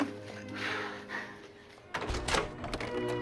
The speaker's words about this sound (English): The doors open. They sneak in.